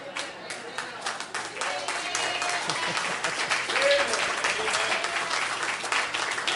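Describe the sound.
An audience claps steadily for several seconds, a dense, continuous crackle of many hands that holds at a fairly even loudness, with a few voices faintly audible underneath.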